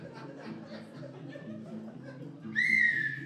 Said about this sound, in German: Jesus, um Gottes Willen, der Zug pfeift schon.